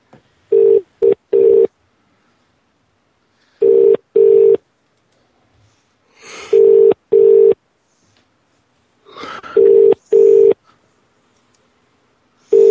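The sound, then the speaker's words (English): A phone line rings out unanswered, the ringback tone sounding in four clear double bursts at steady intervals, with faint line noise between rings and no one picking up. “No answer there.”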